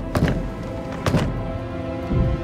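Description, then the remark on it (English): Three heavy, dull thuds land about a second apart as a woman pounds her fist on a trap door held down by a weighted strap in a flooding cabin, each blow booming and muffled, with a steady low rumble underneath. “She hits at the door.”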